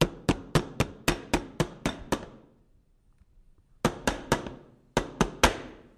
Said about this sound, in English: All right, I'm going to give this a pound on the table so we can get any air bubbles out.